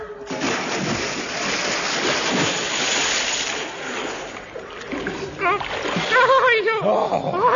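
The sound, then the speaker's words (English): A heavy splash of something plunging into deep water, followed by a few seconds of loud churning and sloshing, then voices calling out as the water settles. “what fool put tripwires and iron girder and deep water in our way?”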